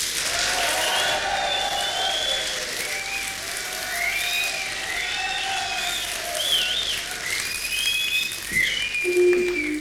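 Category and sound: crowd, studio audience applause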